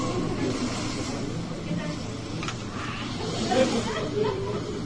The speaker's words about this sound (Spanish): Después de eso, la noche continuó serena y tranquila, solo con el aullar del viento.